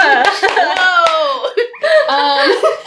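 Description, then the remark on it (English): Four sharp, evenly spaced hand claps into a microphone ring out loudly in the first second, layered over someone's drawn-out laughter that keeps going after the clapping stops. “Should not clap into the mic, maybe.”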